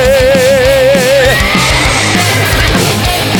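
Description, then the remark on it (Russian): A quavering horse whinny wavers for about a second over loud, dense music in a New Year's song, then drops off as the music carries on. “Чудо будет, от восторга кричи, а в ответ лошадиное ржанье.”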